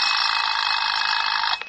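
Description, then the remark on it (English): A loud, continuous electronic alarm clock ringing with a rapid buzzing rattle, sustained steadily for over a second before cutting off abruptly. No voices accompany it. “When the alarm was ready,”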